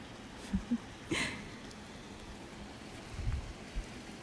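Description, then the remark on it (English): Steady, soft rain hisses evenly throughout, with a few scattered louder taps and drips. The downpour stays fairly quiet and constant, and no one speaks. “Things like rain. When it happens naturally, it's just nice.”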